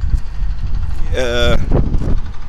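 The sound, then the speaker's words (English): Steady low rumbling wind buffets the microphone outdoors at Herrenhaven on a nice day, with a brief tonal harmonic sound cutting through midway and faint voices in the background. “It wasn't windy at my house, but it is windy at Herrenhaven.”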